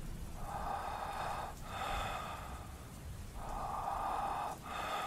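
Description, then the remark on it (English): Slow, soft breathing of someone behind a wooden wall at the top of a staircase, a steady cycle of airy inhales and exhales repeating about every second and a half, quiet and slightly muffled, with no voices. “Someone else was breathing, very softly, behind the wall at the top of the steps.”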